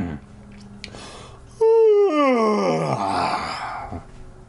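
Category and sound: human body sound, loud yawn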